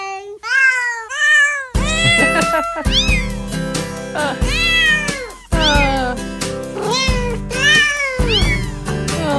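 Cat meows pitched and arranged into a cheerful Christmas jingle, loud, with a steady instrumental beat underneath and a quick run of solo meows at the start.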